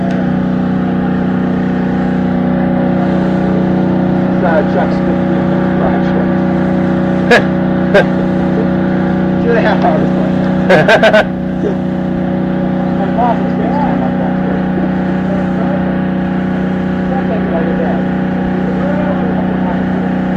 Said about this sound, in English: So, What is that? Generator baffle. Oh, wow.